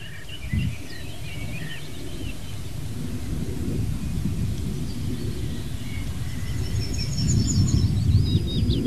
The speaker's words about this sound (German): Ja, dann hören wir auch noch natürlich den Wind, ja, der hier über die offene Fläche rüber peitscht, will ich nicht sagen, weht in die Kiefernkronen rein, die jetzt hoch sind.